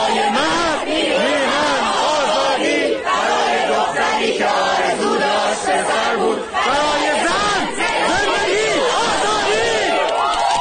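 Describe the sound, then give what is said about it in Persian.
A large crowd of protesters shouts and chants together, many overlapping voices rising and falling in loud, sustained waves with a rhythmic, chant-like pulse throughout. “اما این فریادها و همخوانی‌ها محصول چیست؟”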